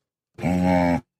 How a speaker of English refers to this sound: I'm going to go animal. That is an animal. That is a dog.